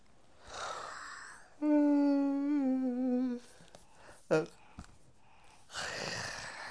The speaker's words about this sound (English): Waking up, stretching and yawning.